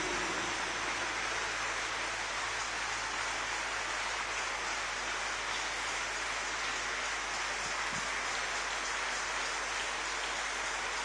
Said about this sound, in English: Thank you, those of you who are clapping. May the Lord bless your hands.